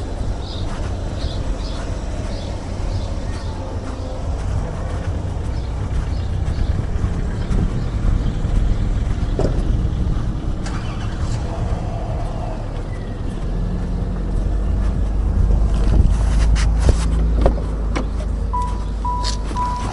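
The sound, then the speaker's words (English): Steady low engine and road rumble fills a car cabin, with brief clicks, a short rattle and a faint whirring tone partway through, growing slightly louder toward the end. “Well, we're back in the car.”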